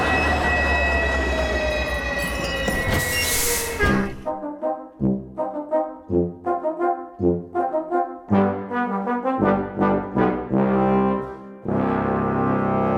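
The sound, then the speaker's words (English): A train rumbles along the rails with high metallic wheel squeal at first, then a loud burst, followed by a run of rhythmic, pulsing mechanical bursts. No one speaks. “Stop the train!”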